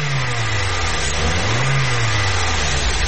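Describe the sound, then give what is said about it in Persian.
A car engine hums, then revs up as the vehicle pulls away and accelerates from an electric traffic light that has turned green in the capital, its pitch rising briefly over a constant background rumble. No voices are heard. “حرکت کو وانا سبز شد بخیر.”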